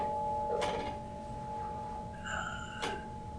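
A bell is struck twice as a call to stop and observe, about two seconds apart, each strike sharp, with a clear metallic tone that rings on and lingers steadily between the strikes.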